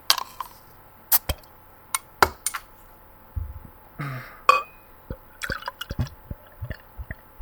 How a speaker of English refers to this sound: Sounds like an aggressive pour. Oh, yeah. She likes it aggressive.